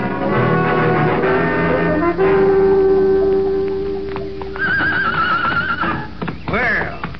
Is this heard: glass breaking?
no